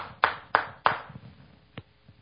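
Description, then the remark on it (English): Three sharp, loud hand claps in quick, evenly spaced succession, then a single softer clap about a second later, with no talking; the speaker claps in applause of his adopted grandson. “Because he was accepted, he was adopted, and now I applaud him.”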